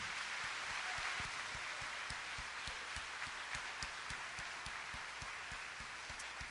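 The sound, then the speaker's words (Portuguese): A church audience applauds the name of the Lord steadily during a worship service, a dense wash of many hands clapping, with a faint underlying rhythmic beat running through. The applause is continuous, with no talking. “Somente aquele que ama Jesus, que o adora, que o exalta, aplaude o nome do Senhor.”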